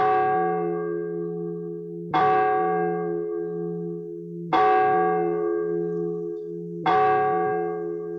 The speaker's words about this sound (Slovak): Až veľký mestský zvon odbil polnoc.